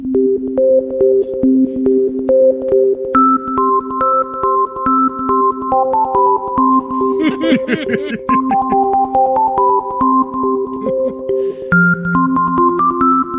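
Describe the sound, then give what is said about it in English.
A homemade electronic theme tune made by a listener for the start of PBK Resurrection, with a steady ticking beat under bright synth melodies that step between notes, broken midway by a burst of wobbling, swooping tones before the tune resumes. “I made Will's music at the start of PBK Resurrection. Thought you might like to play it.”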